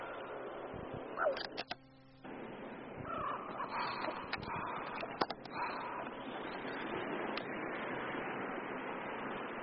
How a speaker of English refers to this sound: Columbus Circle. A flock of birds, blackbirds over the park, circling.